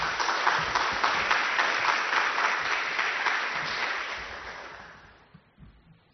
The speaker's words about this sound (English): So can I have a big round of applause, please, for his Two Spirit Rising, overcoming the archival erasure of Two Spirit People of Canada.